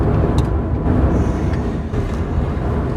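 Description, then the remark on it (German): Steady, loud rumble of a car driving straight through a roundabout, heard from inside: continuous engine and road noise with faint brief clicks and rattles, no talking. “Ja, jetzt fahren wir wieder mal im Kreisverkehr geradeaus und sind in 9 Minuten bei unserem Weingut.”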